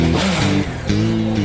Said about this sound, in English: AMI has a dyno, which is a machine that measures performance, speed, and power of a motorcycle.